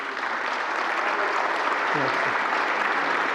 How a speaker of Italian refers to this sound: Ecco, lungo applauso, avete appena sentito la replica del Presidente del Consiglio incaricato